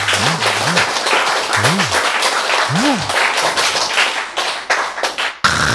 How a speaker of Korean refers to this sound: 박수 한번 치세요.